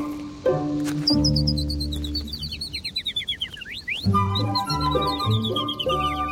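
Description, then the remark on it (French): A chaffinch sings two bright phrases, each a rapid descending run of chirps ending in a quick flourish, heard clearly over a soft, steady musical backing. “il y a des pinsons qui ont une petite virgule à la fin, une petite croche”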